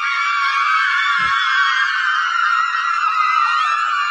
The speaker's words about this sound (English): The cheers will die down.